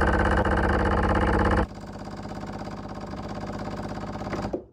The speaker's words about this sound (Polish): Dlatego, że jak my zaczynamy, i teraz mamy już gotowy ekspres duży, żeby podał trochę wody do małego. Ja sobie wciskam tylko podaj wodę, mam nadzieję, że nie wcisnę podaj mleka. Trochę wody będzie.